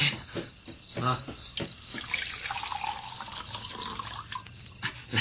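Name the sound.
water being poured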